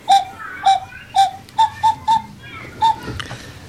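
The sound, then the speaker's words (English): A common cuckoo calls in a series of about seven short, hollow, evenly pitched notes, spaced unevenly with a quicker run in the middle, clear with no talking. “The cuckoo sounds like this.”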